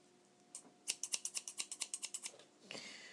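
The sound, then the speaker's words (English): Scissors snip rapidly about a dozen times in a steady, crisp rhythm, fairly loud, followed by a brief rustle as they are set down; no one speaks. “I have scissors and hoisin sauce in one place.”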